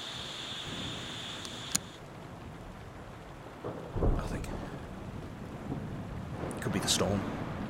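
thunderstorm with heavy rain

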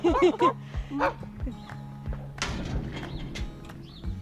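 small dogs barking

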